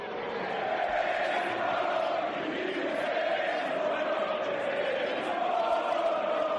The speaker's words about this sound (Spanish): Bueno, seguramente que lo que te suene sea el caso Vinicius. Acaba de escuchar cómo le gritaban al jugador del Madrid, cómo le llamaban mono. A ese chico de 23 años le han insultado en Valencia, Mallorca, Valladolid, Madrid.